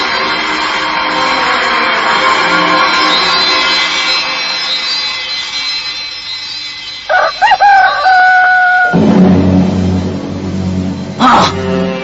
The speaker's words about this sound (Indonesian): Suara ayam berkokok. Oh, rupanya hari sudah pagi dan matahari akan muncul.